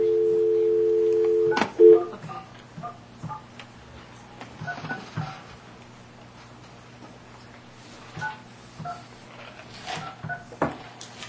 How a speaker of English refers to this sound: I'm going to go ahead and make the phone call to get this thing on schedule. This is the phone call.